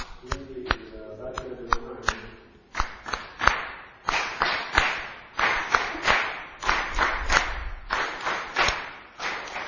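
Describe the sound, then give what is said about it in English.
Hands clap in a steady, fairly quick rhythm, crisp, during a Kirtan performance, carrying on through the whole stretch; a brief tonal hum or voice sits underneath at the start before the claps continue alone. “Then the clapping of the hand.”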